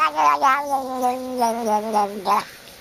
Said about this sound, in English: The answer, a cat getting a belly scratch. Say what? It's true. Here it is again. Now that's a cat with problems,